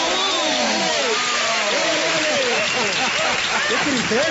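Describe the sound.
Steady, loud applause for the television viewers and their awkward questions to the mayor fills the whole clip, with excited cheering and shouting voices rising and falling over the dense clapping.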